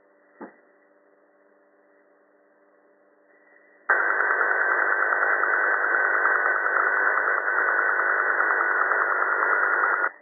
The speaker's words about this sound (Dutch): Nou, en nu doet hij wel, maar op 80 hebben we dus een gigantische storing. Dus daar hoor ik eigenlijk helemaal nagenoeg niks.